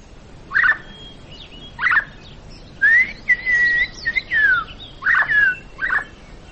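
Small birds chirping in a series of short, bright bursts, some rising and falling, repeated every second or so, with a light background hiss and no talking.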